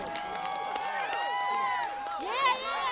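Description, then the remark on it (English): A large crowd cheers and shouts as Pacquiao is announced into the boxing ring, many overlapping voices blending into a steady roar with scattered clapping, swelling briefly louder near the end. “You can feel the collective anticipation as Pacquiao is announced into the ring.”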